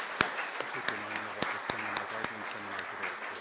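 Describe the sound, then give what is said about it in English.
A crowd in Salon B applauds steadily for the organizers of the previous day's events, a dense patter of many hands with a few sharper claps popping out. A faint voice murmurs underneath the clapping. “If you could please, let's give them a round of applause because it's a lot of hard work.”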